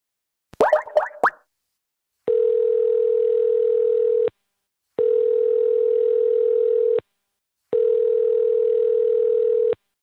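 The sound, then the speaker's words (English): A short clatter of clicks, then a telephone line tone sounding three times as a phone call is placed, each a steady, even hum about two seconds long with brief silent gaps between. No voices. “I'll go talk to Jeremy, and then we'll all get on the phone together.”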